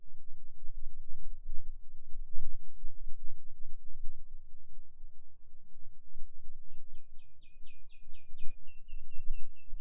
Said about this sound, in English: Sometimes the sounds of the birds can help us, can invite us to stretch our awareness out of our body.